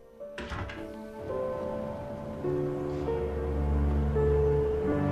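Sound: door closing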